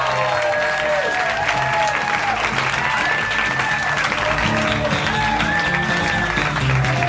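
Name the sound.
audience applauding and cheering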